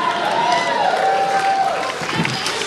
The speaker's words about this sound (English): Some cheers, some boos.